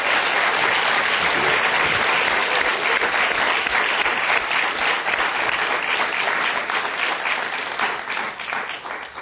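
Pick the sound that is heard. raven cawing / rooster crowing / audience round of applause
audience round of applause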